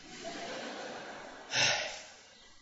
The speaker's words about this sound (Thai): พอพูดเร็วเราก็หายใจไม่ทันเดี๋ยวขอหายใจก่อน